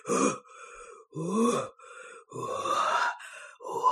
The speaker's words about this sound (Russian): Вот так теплее стало? Да, да, дыши еще на меня, добрая лошадь.